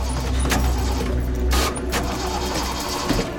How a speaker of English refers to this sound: Tommy gets into a Jeep and tries to start it.